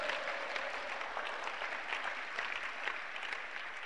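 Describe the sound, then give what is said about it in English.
A church audience claps their hands for the Lord, many hands striking together in a dense, continuous patter that stays loud and even throughout, with no voices standing out. “Come on, clap your hands for the Lord.”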